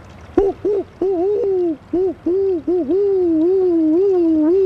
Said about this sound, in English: And one of the dominant sounds around Austin in the summer that starts now are the white-winged doves, which have a wonderful owl-like cooing sound.